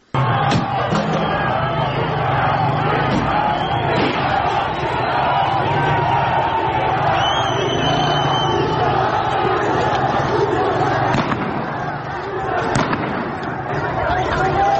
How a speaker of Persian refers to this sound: این صدا مربوط به اعتراضات تهران بود.